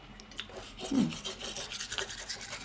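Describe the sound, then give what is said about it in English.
Soft scratchy bristle strokes of a soft bamboo toothbrush scrub a tongue back and forth in a quick, uneven rhythm, a brief muffled wet moment in the middle, with no voices. “Oh, we're brushing our tongue now.”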